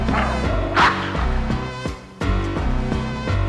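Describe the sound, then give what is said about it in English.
A couple of short, loud dog barks ring out over bouncy, steady background music, the woofs sitting clearly on top of the beat. “Here's a bone now, go bow wow.”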